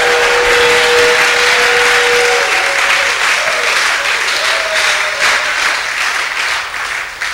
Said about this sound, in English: If you have believed in him, show again by a shout and a clap that you believe in the Son of God.